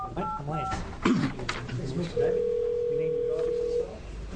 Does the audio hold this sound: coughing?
no